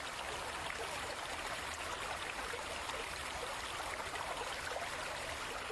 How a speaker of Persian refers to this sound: در ولسوالی شرقی چشت شریف، جایی که کوها سایه سار رود حریرود شدند، دریچه های سد سلما باز شدند تا آبی گرانبها را در رگهای خشک زمین های هرات جاری سازند.